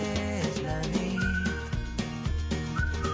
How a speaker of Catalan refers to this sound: Aquest era el xiulet característic que abans ho havia confós amb les bicicletes.